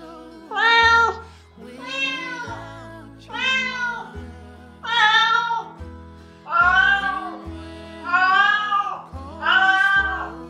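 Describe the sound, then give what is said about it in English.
A cat meows seven times in a steady series, each call drawn-out and wavering, loud with short pauses between, over a faint low background hum. “Yes, it was a cat.”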